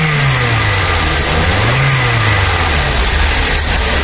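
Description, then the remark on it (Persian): A car engine runs steadily and loud, its low hum swelling upward in a brief rev before settling back, with a constant rough mechanical roar throughout and no voices. “من خودم میفهم که چه قسم موتر ببرم، تو به من یاد نده.”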